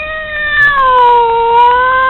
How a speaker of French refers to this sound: Dans un long miaulement, il appela tous les chats du monde à faire de même.